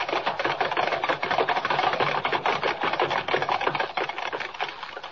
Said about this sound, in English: Thundering hoofbeats echo through the crowd-lined street as the six white horses, suddenly gone wild, carry the swaying silver carriage to almost certain doom, while the thousands of people who only a moment ago were cheering wildly look on aghast.